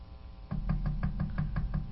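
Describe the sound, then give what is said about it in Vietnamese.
A woman knocks on a door in a quick series of about seven or eight evenly spaced raps, moderately loud, starting after a brief quiet moment with no talking. “Nàng gõ luôn 2-3 cái nữa, thì có tiếng chân đi lại ở phía cửa.”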